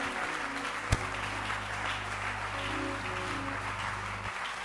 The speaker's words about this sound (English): Clap your hands. Let's appreciate pastors.